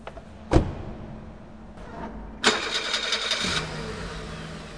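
A sharp click as a car is unlocked by remote in a garage, a car door thud, then an engine cranks and catches, settling into a steady idle with echo. No one speaks.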